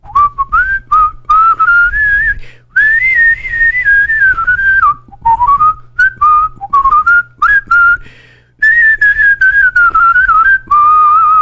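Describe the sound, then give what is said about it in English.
A song led by a bright whistled melody that glides up and down in phrases with short pauses, carried over a soft, steady low backing. No one speaks. “Oh, there's nothing like a good whistling song.”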